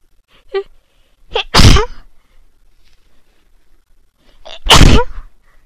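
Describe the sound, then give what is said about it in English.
Two loud sneezes a few seconds apart from a person whose nose itches from dust kicked up by vacuuming, each preceded by a short sharp inhale, with quiet breathing in between and no talking. “I feel like I'm gonna sneeze real soon.”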